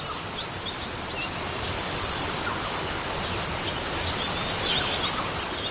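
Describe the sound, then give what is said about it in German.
A waterfall rushes down a rock face into a large pool, seen through tree branches, in a steady, dense roar that holds even throughout, with faint bird chirps flickering high above the wash of water. No one speaks. “Bis du durch die Äste einen wunderschönen Wasserfall sehen kannst.”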